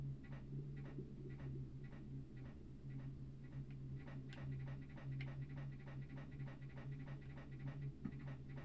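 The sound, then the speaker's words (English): Heavy, rapid breathing comes from the darkness ahead, pulsing in a steady panting rhythm throughout, layered over a constant low droning hum with no talking. “Breathing from the darkness ahead.”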